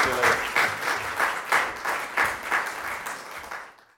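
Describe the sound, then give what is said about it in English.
A group of Laver Cup staff on the sidelines applauds steadily for about four seconds as a send-off for Roger Federer, the dense clapping swelling in rhythmic waves before tapering off at the end, with no voices standing out. “That was the various staff of the Laver Cup who were on the sidelines giving him a send-off, which is perfectly within their rights to do.”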